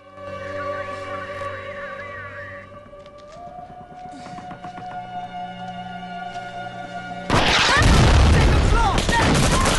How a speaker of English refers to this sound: A volley of gunfire at the flats heralds the end of the ceasefire.